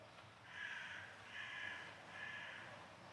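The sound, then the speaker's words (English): A raven calls three times in a slow, even rhythm, each harsh croak faint and distant against a quiet outdoor background. “There's the raven in the distance”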